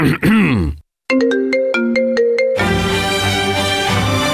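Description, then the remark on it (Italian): A brief voice is followed by an old-fashioned phone ringtone, played in a spoof sponsor ad for a ringtone service called Suonami sta suoneria: a simple electronic melody of quick, evenly spaced beeping notes, then a fuller, denser tone that plays loudly to the end. “potrai avere un paio di vecchie e nostalgiche suonerie come queste”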